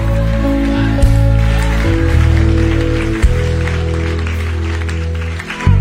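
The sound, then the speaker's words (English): A crowd at a sermon claps steadily in a dense wash of applause, with voices calling out as the preacher urges them to clap and shout, over low sustained organ or keyboard tones that fill the background throughout. “Clap your hands, shout it works.”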